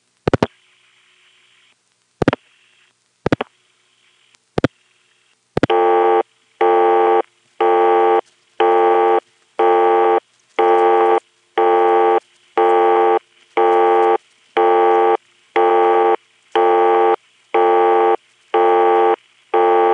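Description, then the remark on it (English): A few sharp dialing clicks, then a telephone busy signal from a 258 number that was made busy: a steady buzzing tone pulsing on and off at an even, rapid rhythm, loud and clear, with no one speaking. “Now we'll call the 258 number that I have just made busy.”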